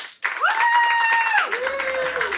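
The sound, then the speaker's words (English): An audience at the Comedy Cellar claps steadily in a dense, continuous patter to vote 'undecided' in a debate on whether millennials will be left behind, with a couple of sustained whoops or whistles rising above the applause. “And then finally, clap if you are undecided.”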